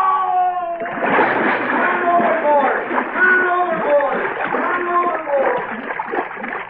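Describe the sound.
A man falls overboard from a ship's rail into the water with a sudden heavy splash, followed by steady churning and sloshing as he thrashes about, with agitated voices calling out over the noise.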